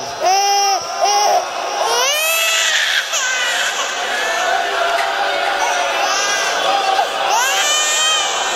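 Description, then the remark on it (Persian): A baby that has just been fed milk cries loudly and continuously, with rising and falling wails and brief catches for breath, while a murmuring crowd fills the background. “این بچه شیر خورده، اینجوری صدا گریهش در میاد.”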